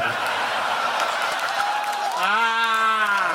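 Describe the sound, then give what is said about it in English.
A crowd applauds steadily with dense, continuous clapping, and near the end someone lets out a long, sustained cheering whoop over the applause. “how about a big round of applause for Lewis”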